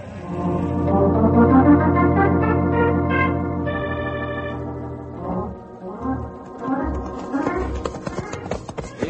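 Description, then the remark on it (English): A sustained, horn-like tonal sound fills the opening, then quick uneven clip-clopping of a galloping horse's hooves rises underneath in the second half, moderately loud. “have plenty hard time keep up with Storm. He fast horse.”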